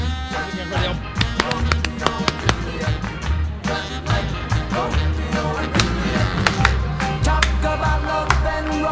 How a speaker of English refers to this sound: Solo hand clap.